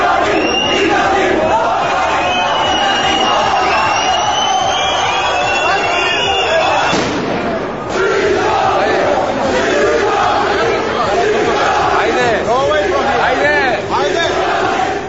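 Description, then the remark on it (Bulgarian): A large crowd at the airport in Yerevan, Armenia, greeting the Bulgarian national team, shouts and chants continuously, loud, with a sharp bang of a firecracker bursting through the roar about halfway through. “тълпа посрещна българските национали на летището в Ереван. С бомбички и крясъци цигани.”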